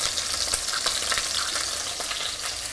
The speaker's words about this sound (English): I'm just letting that brown, the chicken brown a little bit.